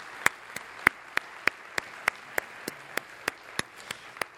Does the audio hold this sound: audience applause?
yes